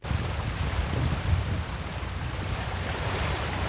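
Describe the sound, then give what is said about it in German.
Steady rushing of ocean waves and water churning against a moving boat, with a low engine-like rumble and wind noise throughout, fairly loud and continuous with no voices. The boat is on the quarter-hour crossing from Dakar, Senegal, to the island of Gorée. “Ein Viertelstunde mit dem Boot von der senegalesischen Hauptstadt Dakar erwäschelt die Insel Gorée.”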